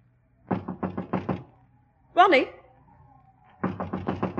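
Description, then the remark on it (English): Two quick bursts of loud knocking on a locked door, about half a dozen raps each, separated by a short voice calling out in between. “Why, it's locked. The door's locked.”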